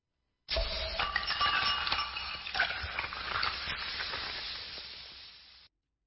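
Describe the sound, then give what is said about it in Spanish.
Glasses clink together in a toast, a few bright chimes ringing out over a steady hiss of background noise, with no one speaking. “Uno de los gestos más comunes en cualquier festividad o celebración es ese, el brindis.”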